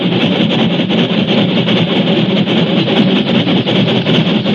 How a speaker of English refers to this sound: But even before it died away, the steel scars began to hum and pulse with life, and a moment later they were smothered under a monstrous roar of pounding drivers and escaping steam.